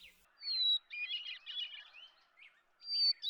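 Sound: hermit thrush song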